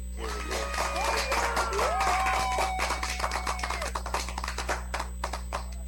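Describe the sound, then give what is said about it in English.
A burst of applause and clapping sound effect, dense and continuous at first with a crowd roar, then thinning into scattered individual claps by the end. “Let me give you the clap, man.”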